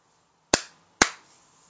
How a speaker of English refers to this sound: He asked for us to slap them. Just in my hands. I'm just going to slap them underneath.